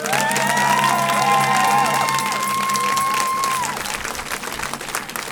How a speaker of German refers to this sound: der hier mit einem donnernden Applaus empfangen wird.